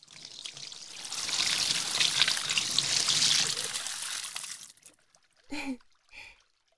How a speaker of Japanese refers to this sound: それじゃあ、泡を流しちゃいますね。 よっと。